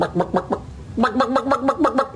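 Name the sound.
person imitating chicken clucking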